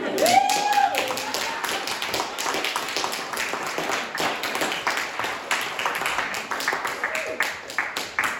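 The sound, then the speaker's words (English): A small group claps steadily for several seconds, a dense run of sharp, crisp hand claps at an even loudness, with a brief high whoop or whistle near the start. “No clapping though.”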